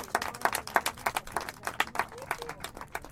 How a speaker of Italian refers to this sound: Grazie innanzitutto, se volete posso farvi un applauso che siete venuti.